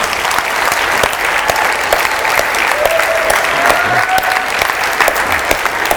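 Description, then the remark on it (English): A large church audience applauds steadily, giving Jesus a hand clap of praise, many hands clapping in a dense, continuous wash that stays loud and even for the whole six seconds, with a faint sustained tone underneath and no one talking. “Let's give Jesus a real hand clap of praise.”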